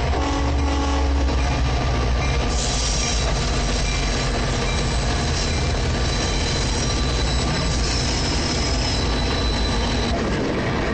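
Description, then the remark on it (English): An Amtrak passenger train rolls steadily into a station, its heavy rumble and metallic wheel squeal continuous throughout, with no voices. “Amtrak train moves into a station.”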